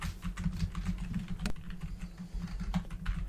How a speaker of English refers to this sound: Sorry, I'm just typing the notes. I know you hear the clicky clack. I apologize. Yeah, that's exactly what I hear is that click clack. It's like the Under Armour commercial.